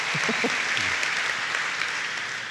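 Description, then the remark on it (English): Steady audience applause, a dense, even patter of many hands clapping at a loud, constant level, with a few faint voices briefly audible at the start. “Let's take an applause break.”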